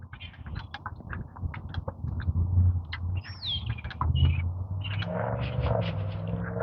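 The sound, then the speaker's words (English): A flock of grackles calls, mostly boat-tailed with some common grackles mixed in, with harsh clicks, rising squeals and chattering notes over a steady low rumble, filling the outdoor scene continuously. “Mostly boat tails, so some commons.”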